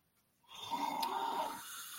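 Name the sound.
loud snoring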